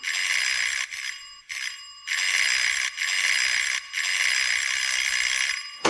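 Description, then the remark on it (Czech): A doorbell at a grandmother's flat, rung from the building's hallway, rings insistently in long, shrill, continuous bursts separated by brief pauses, loud and metallic throughout, with no voices. “Pro pána, co zvoníte jako pominutí?”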